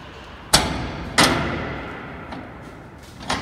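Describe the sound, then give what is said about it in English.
A heavy steel door of an airtight bunker vault, a safe cellar, swings shut with two loud, ringing clanks about half a second apart, their echoes fading slowly, followed by a softer metallic knock at the end. No one speaks. “Go inside and close the door.”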